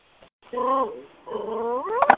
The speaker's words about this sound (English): There's a dog. Whoever's that, the dog, maybe they can mute it. There's a dog.